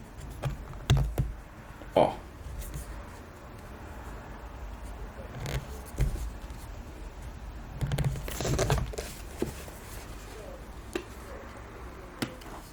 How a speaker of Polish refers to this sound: lekko zaklejone taśmą, gdzie musimy to odkleić. O kurczę, no. Spróbujmy to jakoś odkleić.